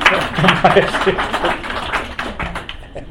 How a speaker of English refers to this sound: Thank you. A round of applause.